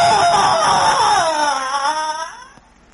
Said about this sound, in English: I heard him scream, too.